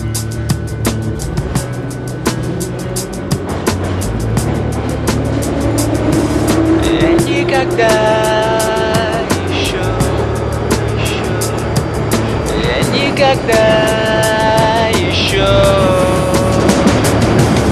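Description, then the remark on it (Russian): A metro train pulls away after its doors close, heading for Kantemirovskaya station, and picks up speed. Its motors rise in stepped, climbing whines over a loud, constant rumble, with no talking. “Осторожно, двери закрываются. Следующая станция – Кантемировская.”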